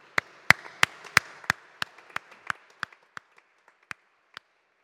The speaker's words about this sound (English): Our ministry team, our elders, our board of management, members of the Scots Church Property Trust. So many who generously give their time to serve. And it is worth acknowledging all of them now with applause and thanks.